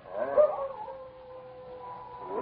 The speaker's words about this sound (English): Is that a dog howling?